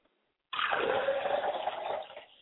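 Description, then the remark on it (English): Liquid is poured out as a libation toward the east in a steady splashing stream that starts abruptly after a moment of silence, stays fairly loud, then tapers off near the end. No voices. “Pouring libations to the east, I look towards the east and say, Ashe.”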